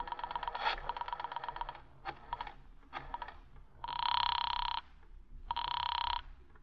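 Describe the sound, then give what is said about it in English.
A quick burst of telephone dialing clicks and tones, then two steady electronic ringing tones on the line, each lasting about a second with a short pause between, heard without any talking. “do you mind if I use your phone a moment?”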